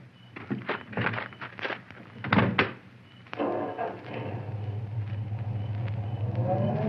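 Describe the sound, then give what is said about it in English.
A few solid thunks of a car door shutting at night, followed by the engine turning over and settling into a steady, low idling rumble. “Oh, this is my car. Would you ride into town with me?”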